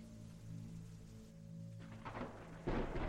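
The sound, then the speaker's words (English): Rain hisses steadily beneath a low, sustained drone, then thunder rumbles in and swells into a louder crack near the end. “The moon illuminated a patiently waiting figure under the rain.”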